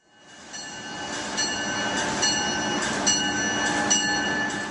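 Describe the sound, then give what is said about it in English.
A high-speed passenger train rushing along with a steady, loud roar and a high metallic whine, punctuated by regular clacks roughly once a second. No voices are heard. “The sounds of high-speed trains may never tire for business commuters, but what does get old over time are the train's interiors.”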